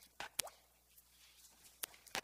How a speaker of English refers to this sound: It's the main focus, and kind of like a drop of water in a puddle.